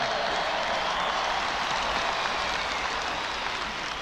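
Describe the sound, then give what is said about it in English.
A large concert audience cheers and applauds in a dense, steady, loud roar that fills the whole stretch, with countless overlapping claps and no single voice standing out. “We're going to hear him address this crowd at one point in the concert, and he is a little bit intimidated by the crowd that is in front of him.”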